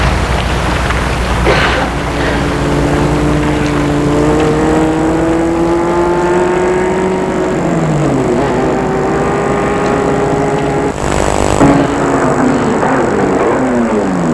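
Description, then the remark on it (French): A car engine hums, its tone rising as it passes a man walking on a deserted street at night and then dropping as it slows to a stop facing him, over a steady hiss like rain on the road. “Une voiture l'a dépassé, s'est arrêté face à lui.”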